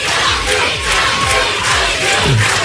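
A crowd applauds and cheers as a performer's bodyguard is brought in, a dense, loud wash of clapping mixed with shouts that holds steady for a few seconds. No one speaks.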